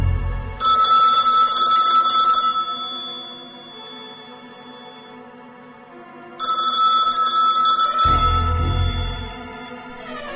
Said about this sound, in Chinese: 正当小明准备要上床睡觉时，客厅的电话突然响起。